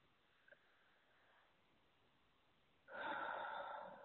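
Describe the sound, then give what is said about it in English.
Slow deep breathing in and out: a near-silent stretch where the inhale is barely audible, then a loud, breathy rush of air on the exhale lasting over a second. “I was breathing in, and then I was breathing out.”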